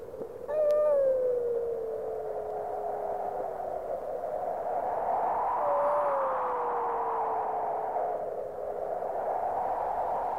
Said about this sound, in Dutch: Doodstil was het nu. In de verte kon je de wolven horen huilen.